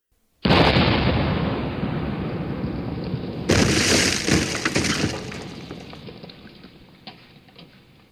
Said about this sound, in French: À cet instant, le cuirassé lança son deuxième coup de canon et l'obus alla éclater entre les poteaux, faisant voler en éclats un autre morceau de la digue.